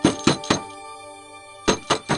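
Two sets of three firm knocks on a door, evenly spaced, separated by a pause in which a steady, faint tonal hum lingers.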